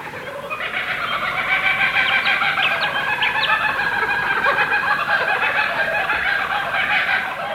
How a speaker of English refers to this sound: An Australian laughing kookaburra guffaws in the depths of the Florida Everglades, startling a lost pair of escaped convicts.